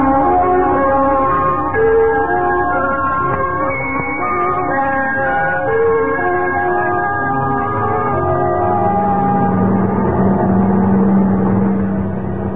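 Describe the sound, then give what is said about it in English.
A heavy truck engine drones steadily and loudly, a low rumbling hum with a throbbing tone that shifts slightly in pitch midway, with no voices. “Ain't you going to catch a truck or something?”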